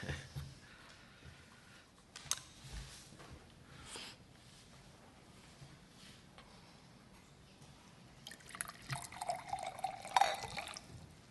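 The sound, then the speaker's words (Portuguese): Quiet clicks and handling noises, then water pours into a glass for a few seconds with a gentle rising gurgle. There is no talking. “Água só está aí para isso.”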